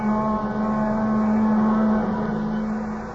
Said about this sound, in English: The plaintive wail of the train whistle drifting back at him now somehow recalled that other time and place, exactly as if it were this moment.